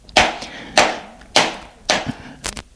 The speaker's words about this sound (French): Puis, elle donne des coups. Elle frappe, frappe, frappe. Ses coups ne touchent que la chaise.